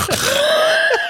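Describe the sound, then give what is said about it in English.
A single loud wheezing breath lasting about a second, raspy with a whistling, tonal edge, ending in a brief throaty catch. No one speaks. “Oh my God, you do have the death rattle.”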